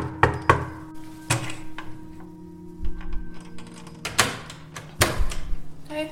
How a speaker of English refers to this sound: You know, the walls are faded, and I went back to the building to see what I could find, and I went to my old apartment and knocked on the door.